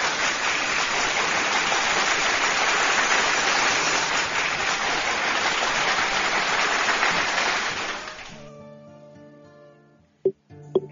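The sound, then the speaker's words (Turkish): Sustained applause from a crowd for a recited poem, dense and steady for about eight seconds, then fading out, followed by a couple of faint clicks and a soft tonal sound. “Kocaman kocaman bir alkış.”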